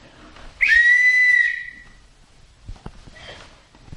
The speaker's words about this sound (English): That's a good whistle. That's more like a caboose whistle.